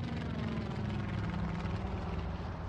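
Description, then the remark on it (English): A steady, loud engine drone of a small aircraft carrying a state homicide investigator, a state fire investigator and a crime scene technician as it touches down at a local airstrip on Prince of Wales Island, with a rumbling low throb and continuous, unbroken propeller noise, with no voices. “But finally, a day later, the small aircraft carrying state homicide investigator Randy McFerrin, a state fire investigator, and a crime scene technician touched down at a local airstrip.”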